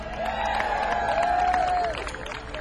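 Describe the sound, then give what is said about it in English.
A concert audience in Nelson County applauds and cheers for a local band: dense, steady clapping that holds loud for a couple of seconds, with a long, sliding whistle or shout rising over the crowd before it eases off. “Let's hear a big Nelson County round of applause for the …”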